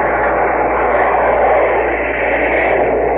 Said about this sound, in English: That baby was plenty low. And now black is coming up in the sky. Here we go again. Another plane's come over. Right over our port side.